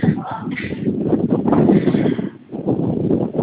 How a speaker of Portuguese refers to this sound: No momento eu não vi que você falou que eu tô aqui no meio da rua, no vento que tá levando até o carro.